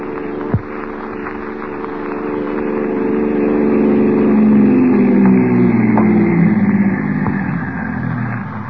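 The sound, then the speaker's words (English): A car engine rumbles steadily, its low harmonic drone rising and shifting in pitch as the vehicle pulls up, with a sharp click near the start and a couple of faint knocks. “Oh, here's the car.”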